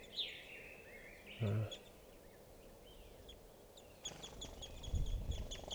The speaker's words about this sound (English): I'm right underneath the tree that a bunch of crossbills are in, and they're coming down for water. And I'm right next to some birds now, and they're in a small tree.